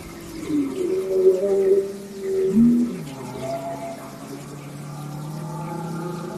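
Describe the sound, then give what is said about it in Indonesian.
A deep, moaning whale call with long, gliding tones that rise and fall, sounding resonant and mournful over a low rumbling background, with no speech. “Saat sedang berenang di tengah ganasnya ombak lautan, tiba-tiba ada seekor ikan yang berukuran besar yang menelan Nabi Yunus alaihissalam adik-adik.”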